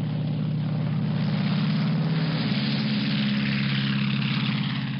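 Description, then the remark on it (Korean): The propeller engine of Post's airplane, the Winnie Mae, drones steadily and loudly throughout a long flight from Berlin toward Russia, a deep continuous hum with a low rhythmic throb and no voices. “오랜 시간을 비행하는 동안 포스트의 귀에 들리는 것은 오직 엔진 소리뿐이었습니다.”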